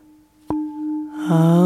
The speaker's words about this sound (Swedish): Så jag ska slå på klangskålen. Och samtidigt så säger vi Aum. Vi andas in, ljudet tystnar och säger Aum när jag klingar i skålen igen.